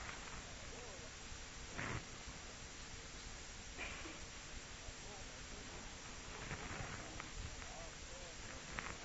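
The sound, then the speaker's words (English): An audience turns their Bible pages to Colossians 1. Many pages rustle and flip at once in a steady papery hiss, broken by a few brief, louder crackling bursts of turning paper, with no clear voices. “So I'd love to hear the rustling of the leaves.”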